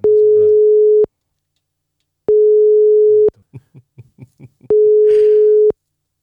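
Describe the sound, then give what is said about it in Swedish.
A telephone ringback tone, a steady mid-pitched hum, sounds three times in one-second bursts separated by short pauses. No one picks up, and faint murmured voices come through in the gaps. “Ska vi ringa Weigel? Ja, vi ringer Weigel.”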